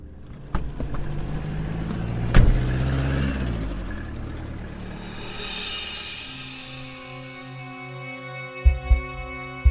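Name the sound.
car engine driving away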